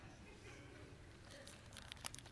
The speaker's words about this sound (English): I noticed while they were getting ready to clean my teeth, they pulled out a bag like this, and it was sealed, and I heard all this rustling.